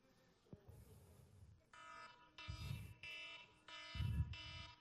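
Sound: alarm ringing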